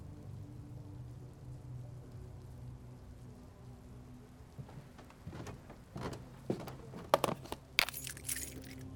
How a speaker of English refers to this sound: It is a cold, rainy evening.